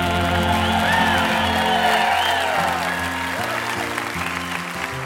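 An audience applauds loudly and steadily in response to a song, with cheers and whoops rising over the dense clapping before it eases slightly toward the end.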